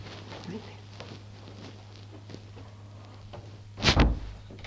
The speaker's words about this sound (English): I'll close the door. Would you mind?